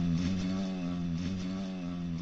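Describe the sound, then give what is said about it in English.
A fly buzzes loudly and steadily in a hotel room, a continuous droning hum with a slight wavering pitch and no voices. “There's something at the back that's loud. Yeah, I it's the fly. He's just buzzing.”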